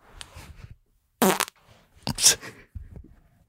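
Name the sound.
fart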